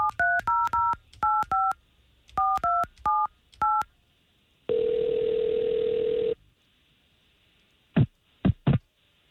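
A rapid series of touch-tone keypad beeps dials a phone number in short clustered bursts as hosts of radio station K92.3 call someone on air, followed by a steady ringback tone and then a few sharp clicks as the line connects.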